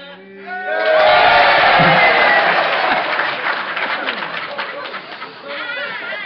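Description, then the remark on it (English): A large audience breaks into loud, sustained clapping that fills several seconds, with a few scattered shouts and cheers rising over the dense applause. “With all the happy, clappy, right? You will clap at anything.”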